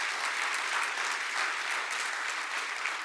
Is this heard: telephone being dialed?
no